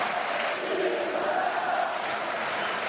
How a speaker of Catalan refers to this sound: Segueixen els aplaudiments.